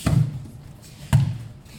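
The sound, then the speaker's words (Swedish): Two heavy, muffled thuds of judo practitioners falling onto a padded mat while practising falling technique, about a second apart, each with a short low rumble that fades quickly. “Det är därför det dunsar i mattan.”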